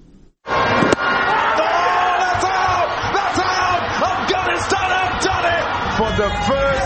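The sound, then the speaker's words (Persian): A large street crowd of Afghans erupts suddenly after a brief quiet moment, cheering and shouting loudly and continuously, with sharp bangs or claps scattered through the dense din, celebrating the Afghanistan national cricket team's win over Bangladesh at the 2024 T20 World Cup in Nangarhar, Khost or parts of Peshawar. “صبح روز سه‌شنبه این بازی در نقاط مختلف افغانستان با شادی و هیجان دنبال شد و افغانها این پیروزی را در ننگرهار، خوست و در برخی مناطق پشاور با آمدن در جاده ها جشن گرفتند.”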